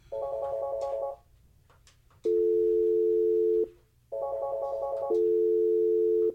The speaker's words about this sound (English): This call that doesn't want to connect. Oh, it's that other phone. He transferred it to the wrong phone.